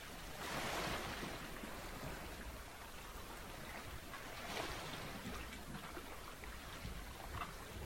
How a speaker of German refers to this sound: Und mit dem Rauschen des Meeres entspannst du dich mehr und mehr.